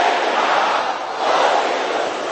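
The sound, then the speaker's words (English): An audience shouting loudly together during a prayer in Jesus' name, a dense, sustained roar of many voices that dips briefly and then swells again, with no single voice standing out. “There is a sister here who needs to shout this loud and clear.”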